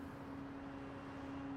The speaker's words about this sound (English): Cars drive over a bridge.